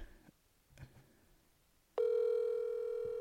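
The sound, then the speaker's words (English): After a few faint clicks, a loud, steady electronic telephone tone starts abruptly and holds unbroken to the end, the ringing tone of an outgoing call to America waiting to be answered. Nobody speaks. “Answer the phone. Yeah, go ahead, ring, and then not answer.”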